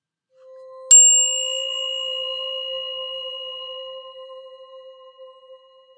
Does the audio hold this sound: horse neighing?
no